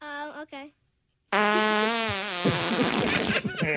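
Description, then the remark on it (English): A short, buzzy fart sound effect, a brief silence, then a much longer, loud, sputtering fart with a wavering pitch that grows raspier toward the end. “he's like, where are the farts? Yeah, we have to play get farts. Get the farts ready.”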